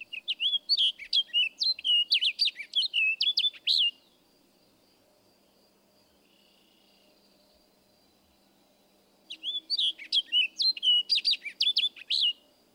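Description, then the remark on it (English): An orchard oriole sings two bursts of rapid, varied warbling notes that end in a down-slurred phrase, separated by a few seconds of quiet. The song is clear, with no other sounds. “Listen again to the orchard oriole and the down-slurred phrase towards the end of the song.”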